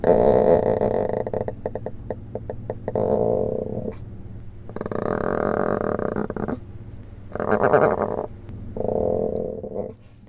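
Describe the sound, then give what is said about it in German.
A giant panda cub at a rearing station in China vocalizing after feeding: a rapid, pulsing croaky call followed by three or four shorter, moaning bursts separated by brief pauses, with no people talking. “Und dann haben wir noch ein Geräusch. Hören wir uns das auch mal gemeinsam an, vom selben Panda-Baby, soviel ich weiß.”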